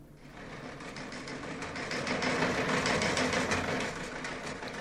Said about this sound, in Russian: Впрочем, если хотите, включите телеграф и послушайте сами.